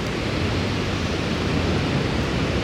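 A steady, powerful roar of rushing water from a waterfall, heard from its top, loud, a dense unbroken wash of sound with no voices.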